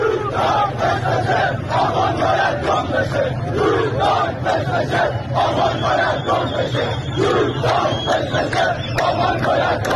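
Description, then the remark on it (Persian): A large protest crowd at the Dezful protests chants slogans in unison, loud and continuous, the rhythmic shouted phrases repeating over a steady roar of many voices for the full ten seconds. “اینم گوش بدین، بازم مربوط به اعتراضات دسفوله.”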